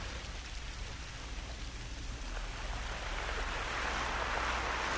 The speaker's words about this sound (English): Which are ocean waves recorded on a beach. But what I've done is I sonically manipulated them so they're going backwards.